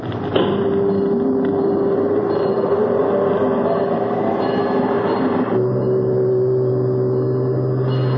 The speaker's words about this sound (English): How far away can a ship hear our signal, Chief? Oh, it can be picked up as far away as 14 miles under perfect weather conditions. Now, those submarine telephones are pretty sensitive instruments. Start the whistle, Chief.